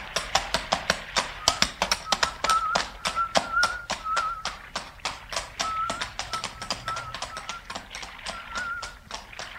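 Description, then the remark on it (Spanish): Horse hooves clip-clop in a quick, steady rhythm of sharp taps, fairly loud throughout, as the horse departs toward a village at sunset, with faint thin chirps or whistles drifting in the background and no talking. “Bueno, mi pingo, hay que irse.”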